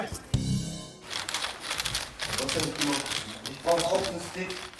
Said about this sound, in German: Das ist so ein Faszienstab. Also man zieht den so über den Oberschenkel und dann erwärmt man die Beine schon mal so ein bisschen.